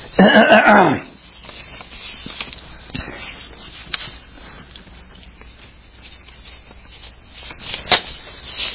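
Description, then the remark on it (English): Sheets of paper rustle and shuffle for several seconds as someone gets out another paper, with scattered crisp crinkles and flicks, after a short low vocal sound at the start. “Need to get another paper here where I can see it.”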